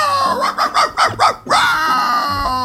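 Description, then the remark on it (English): Whitey, the Dulux dog, barks straight into the microphone in a quick burst of four or five loud yelping barks, followed by a lingering whiny tone. “Sorry to anyone listening right now as Whitey barks straight into the mic.”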